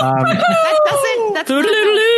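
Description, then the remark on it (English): A man's voice imitates a chicken, making loud, nasal clucking and squawking sounds with wavering pitch and a brief break midway, with no other sounds. “clucking like a chicken was not on my Last Chance Kitchen bucket list”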